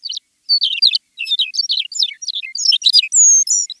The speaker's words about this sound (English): McCown's longspur.